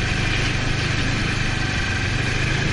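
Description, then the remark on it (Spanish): A snowmobile engine idles steadily, a constant rumbling drone with a low pulsing throb that holds at the same loudness throughout, with no voices. “El día siguiente empezó temprano, a las 9, donde nos volvimos a equipar para el frío, pero esta vez para conducir una moto de nieve.”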